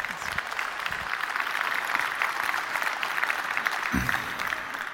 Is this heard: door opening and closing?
no